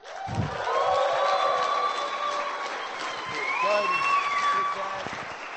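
An audience at a live one-man show bursts into sustained, loud applause for a guest, steady clapping mixed with crowd cheers and a few rising whoops, holding at full strength for several seconds before easing slightly at the end.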